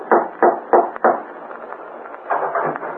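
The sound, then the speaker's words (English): Four firm, evenly spaced, loud knocks on the wooden door of a house one evening, followed by a stretch of quieter rustling and faint movement. “One evening, he decided to call on Bob, went to his house, and rapped on the door.”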